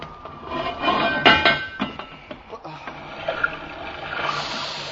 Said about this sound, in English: Hatch is clear. All right, open her up. Let's get some air.